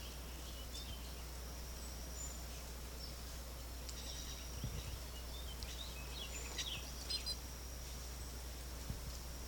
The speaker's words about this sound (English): Wild bird, green-backed bird. Wild bird. Wild bird.